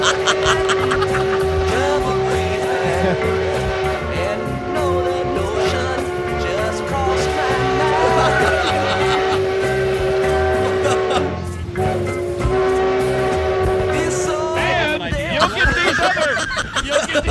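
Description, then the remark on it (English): A steam train being driven rumbles along the tracks, loud, its steady rhythmic chugging running throughout beneath a sustained whistle-like tone, with a surge of noise near the end. “Driving that train.”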